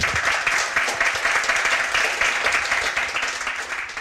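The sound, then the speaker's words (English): An audience applauds three guests steadily, a dense, continuous patter of many hands clapping at once, sustained at an even, fairly loud level with no talking over it. “Can you give a massive round of applause to our 3 guests?”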